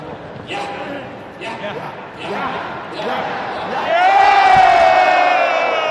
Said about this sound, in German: Und vielleicht kann ich einen Punkt noch draufsetzen und Sie unterstützen mich vielleicht mit Ihrer Energie, mit Ihrem Beifall.